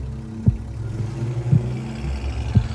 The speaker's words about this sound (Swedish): Hon ser sig inte om när bilen startar och rullar ut från uppfarten.